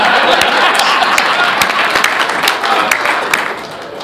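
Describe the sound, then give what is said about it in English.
A crowd applauds steadily for about four seconds, a dense wash of many hands clapping with sharp individual claps popping out, tapering off slightly at the end. No one speaks. “No applause.”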